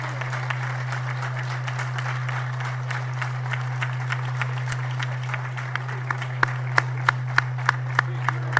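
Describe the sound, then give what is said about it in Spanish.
An audience applauds steadily for the panchoneras of Laredo at a San Antonio celebration event, a dense patter of many hands clapping over a constant low electrical hum, with a few sharper individual claps standing out as it tapers toward the end. “Un aplauso para todos vosotros y para todas vosotras.”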